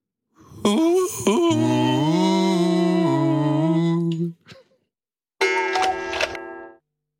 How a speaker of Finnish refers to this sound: Kello.